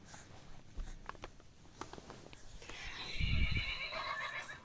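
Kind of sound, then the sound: animal, horse neighing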